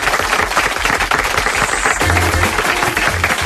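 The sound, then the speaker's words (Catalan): A crowd of radio listeners present at the show applauds steadily, a dense wash of many hands clapping at once with no pause, loud and sustained for the whole stretch, with faint low rumbling underneath. “Els oients d'aquí, doble aplaudiment.”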